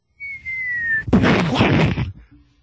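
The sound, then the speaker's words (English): A person vocally imitates a big coconut falling and hitting the roof of a bourrée, a sound likened to a gunshot: a steady, slightly descending whistle, then a loud, rough, crashing burst of breathy noise lasting about a second before cutting off. “Freaking coconuts were dropping, and if they hit the roof of like your bourrée or if they hit the roof of anything, it would sound like a gunshot going off.”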